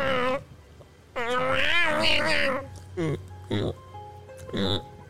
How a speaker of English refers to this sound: And now there's a cat making noises.